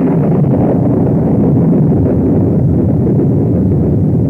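Steady, dense rain roars without a break, a loud, even hiss with a deep rumbling underneath. No voices or other sounds come through.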